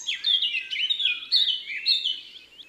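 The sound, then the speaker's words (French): A Eurasian blackcap sings a rapid, continuous warble of bright, fluty notes, rising and falling without pause, clear, with no other sounds around it. “revenons sur Terre avec la fauvette à tête noire et son chant joli.”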